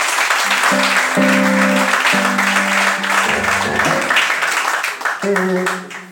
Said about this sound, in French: Applaudissez très fort pour le ciel.